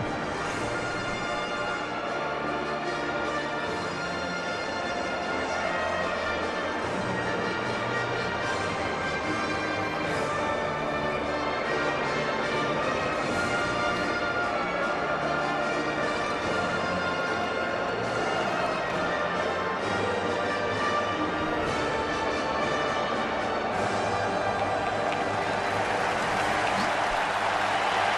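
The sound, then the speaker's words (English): A huge crowd at an old stadium in Scotland sings the Ukrainian national anthem together at a Scotland versus Ukraine soccer match, a loud, sustained wall of voices that swells steadily and never pauses, with the words blurred into one passionate roar. “I want to hear the Ukraine anthem. This is Scotland and Ukraine playing soccer.”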